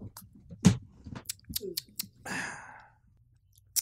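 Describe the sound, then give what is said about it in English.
Someone takes a sip of a beer mimosa: a few wet mouth clicks and a swallow, followed by a satisfied breathy exhale, then a faint click at the end. “Let me get a sip of my beer mosa.”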